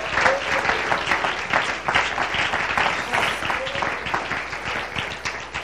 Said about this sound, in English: Could you clap your hands unto the Lord tonight?